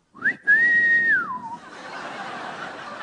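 A parrot whistles one bright note that swoops up, holds steady and high for a moment, then glides down, followed by faint low background noise and no talking.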